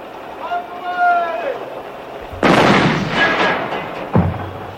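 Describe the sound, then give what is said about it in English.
A shouting voice, then a tank cannon of the Iowa National Guard fires a heavy, booming blast with a long rumbling tail, followed by a second, shorter cannon shot. “I understand we've set up our portable broadcast unit inside a tank of the Iowa National Guard to bring you direct reports from within the zone of the advancing enemy.”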